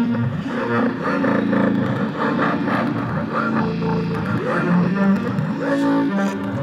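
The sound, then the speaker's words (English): A heavily distorted electric guitar, its signal sent through an iRig interface into an iPad running the Amplitube app, plays a steady stream of chords and notes at a constant, loud level, its crunchy amp-modeled tone filling the whole recording with no voices. “This is Amplitube. So the guitar signal is from the mult.”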